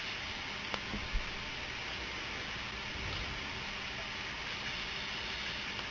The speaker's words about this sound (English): You're hearing the fan from the background.